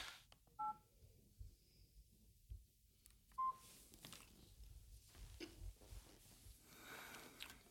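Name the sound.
telephone keypad dialing tones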